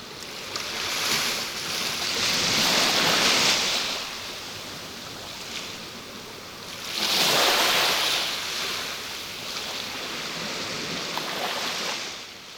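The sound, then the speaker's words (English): Ocean waves, recorded with high-quality binaural microphones, wash in and recede in a steady, broad hiss, with two louder surges swelling around the middle and near the end; no voices, just continuous surf. “Now listen to the sea recorded with high quality binaural microphones.”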